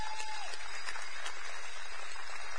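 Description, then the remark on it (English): A crowd of people claps steadily, a dense, continuous wash of applause at moderate loudness with no speech over it: a big round of applause as the kids and youth are dismissed. “But so right now, with a big round of applause, we're going to dismiss our kids and our youth, y'all.”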